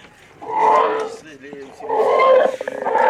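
Floating pontoons creak and groan in two long, loud, roaring swells, with a short quieter squeaky stretch between them and fluttering rasps trailing off the second; the sound comes from a pontoon and its tensioner, picked up by a sensor placed on them to make music.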